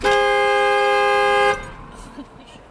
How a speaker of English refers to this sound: So if you turn your car all the way off, it just starts honking? Yeah, look.